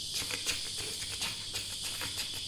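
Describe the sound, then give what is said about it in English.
A dense chorus of cicadas chirping, a steady shrill buzz that pulses in quick waves, constant throughout, with no voices. “So you're entirely swept away by the sound of the cicadas.”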